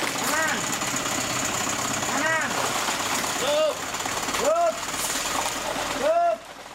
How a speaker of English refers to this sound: Nyoman Adi Artana uses a hydraulic press to compact up to 5,000 bottles into approximately 1 cubic meter, weighing up to 140 kilograms, or about 308 pounds.